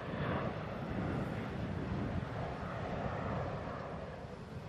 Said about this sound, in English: fires up his engines, taxis down the runway, and takes off, heading again for the smoke storm that, even from here, makes this monster plane look small.